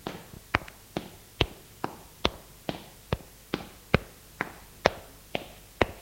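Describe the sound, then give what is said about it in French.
Footsteps of a man climbing stairs: a steady run of about fourteen sharp, knocking steps at an even, brisk pace, some with a softer scuff after the main hit, with no voices. “Il monte les escaliers.”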